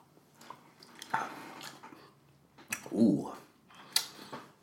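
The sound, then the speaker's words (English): Quiet mouth sounds of someone sipping a Suntory drink: a few soft slurps and wet clicks spread over several seconds, with a fuller gulping swell near the middle and no talking. “Let's just sip this bad boy. Cheers.”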